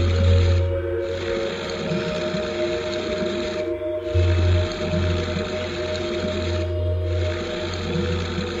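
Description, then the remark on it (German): Deep, sustained whale song with layered droning tones and a low rumbling hum, broken by brief pauses every few seconds, steady and fairly loud with no voices. “Der Wal begann zu erzählen.”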